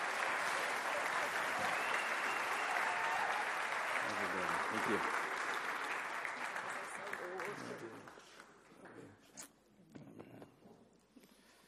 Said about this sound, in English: And so thank you for your years of service and what it is that you mean to us down here in the Cape Town Church. So can we give them another round of applause, please?